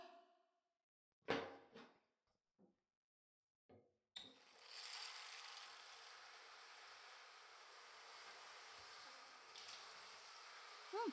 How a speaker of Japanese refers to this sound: あ、背中は向けなくていいよ。そのまま座って。まずは、シャワーかけるからじっとしててね。